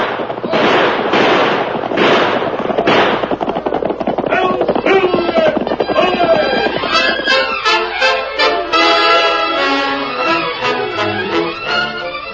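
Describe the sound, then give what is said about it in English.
In a Lone Ranger radio drama chase scene, a rapid volley of sharp, cracking gunshots rings out over the first few seconds, then gives way to loud, swelling dramatic music that keeps going to the end. “Keep on, shoot!”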